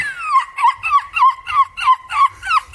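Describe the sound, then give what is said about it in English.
A 9-year-old boy from the English town of Chesterfield, a European gull screeching champion, imitates a seagull with a run of about eight quick, loud, high-pitched screeches in a steady rhythm, each call sliding downward in pitch, with no talking over it. “It's about a boy who's won a European championship for screeching like a seagull.”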